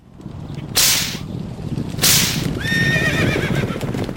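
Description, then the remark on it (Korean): A horse gallops at full speed in a fast, steady drumming of hooves as its rider whips it to flee. Two sharp whip cracks sound over it, and then the horse lets out a high, wavering neigh that falls in pitch. “관중은 그제서야 소백이 죽은 것을 알고 나는 듯이 말에 올라타고 채찍질하여 전속력으로 달아났다.”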